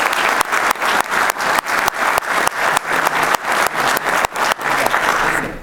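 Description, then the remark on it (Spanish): Steady applause from an audience for Dr. Norman Bennett, representative of the Ministry of Agriculture and Fisheries. Dense, sustained clapping at a fairly loud level throughout, with no voices over it. “En representación del Ministerio de Agricultura y Pesca, tenemos al doctor Norman Bennett, que le pedimos su fuerte aplauso.”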